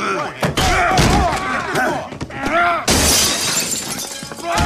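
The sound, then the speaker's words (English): Heavy banging and slamming on a door, several loud crashing impacts in quick succession, harsh, with agitated voices shouting over the commotion. “My fucking door!”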